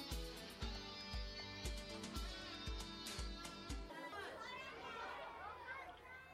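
A roomful of children, too many to fit in the room, chattering together as they wait for day two of the Kita Ward Children's Town event to start, with over 200 participants expected; a dense, lively babble that comes through clearly after an upbeat tune with a steady thumping beat cuts off partway through.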